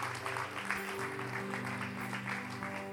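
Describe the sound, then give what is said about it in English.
Steady crowd applause for the men, a dense wash of many hands clapping at once, sustained evenly for the whole stretch with a faint hum underneath and no voices standing out. “In Jesus' name, why don't we give the men one more amazing round of applause?”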